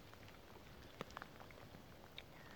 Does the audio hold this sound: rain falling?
yes